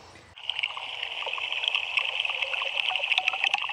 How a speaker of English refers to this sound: So you're hearing live what's happening in the pond we're standing 50 feet in front of. Pond Station is a solar-powered transmission pod on the surface of Wave Farm Pond.